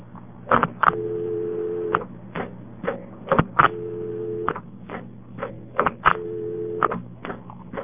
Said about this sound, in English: Notice that the dial tone comes on, and when you hang up, it returns the coin just like NX2 does, except the one little detail that has a touch tone dial tone.